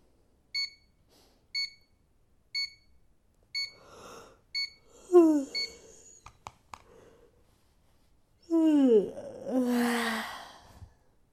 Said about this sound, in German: Das war der Wecker. Den brauche ich im dunklen, kalten Winter, denn da schlummere ich wie ein Bär in seiner Höhle. Ohne meinen Wecker würde ich oft verschlafen.